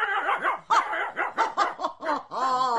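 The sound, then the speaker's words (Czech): A dog barks in a quick run of about eight yelps, short and insistent, with the last bark drawn out into a longer whining note. “Psovi mám věřit. S tím na mě nechoďte. Pes dosvědčí všechno.”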